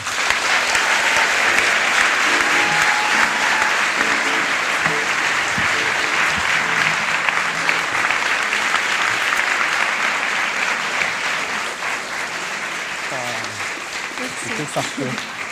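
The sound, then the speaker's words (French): An audience applauds loudly and steadily for about fifteen seconds, a dense wash of clapping that fades slightly toward the end as a few voices begin to emerge. “Merci d'applaudir très très fort”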